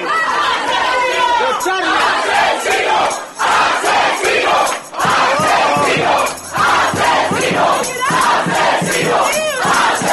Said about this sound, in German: Die jungen Demonstranten dringen bis in sein Behandlungszimmer vor. Als sie dem früheren Folterarzt Auge in Auge gegenüberstehen, können sie ihre Wut kaum noch zügeln.